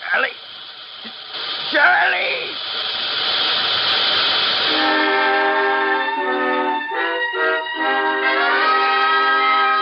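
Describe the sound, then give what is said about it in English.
A loud train crash sound effect as a train hits something on the track: harsh hissing steam and screeching metal give way to a long, wavering whistle blast that keeps sounding over the roar, with no talking. “Sheriff Wagner of Ravenna was notified of the wreck. He alerted the railroad and local doctors.”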